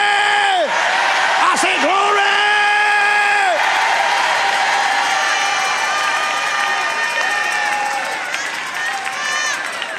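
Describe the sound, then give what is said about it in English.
A loud crowd hollers and screams continuously after being urged to clap, holler and scream, overlapping voices rising and falling in long whoops and yells, energetic throughout, easing slightly toward the end. “Clap, clap, clap, holler, scream, do something.”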